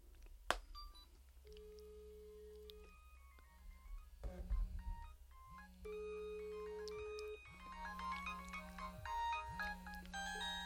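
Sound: mobile phone ringtone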